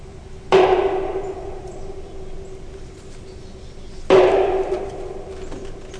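Two gunshots from a gun club near the Fox River, close to Vianna, a few seconds apart, each a sharp loud crack followed by a long rolling echo that fades out, over a steady low hum with no talking.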